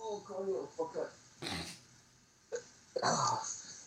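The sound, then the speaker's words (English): A dog, Oscar, whines and yelps in two short, strained outbursts, after a person's murmuring voice at the start. “And hopefully his dog barks.”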